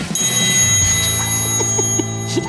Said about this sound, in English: I just did it on my phone. I was getting ready during the commercial break. How cool was that? That was great. I made sound effects. Wow. It's a triangle.